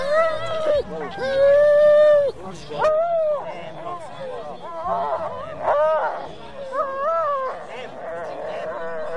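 Hundreds of sled dogs (Siberian huskies, Malamutes, Samoyeds and Greenland dogs) howl and yelp together among the sled drivers' caravans and vans, long wavering howls overlapping with shorter excited cries in a loud, continuous chorus.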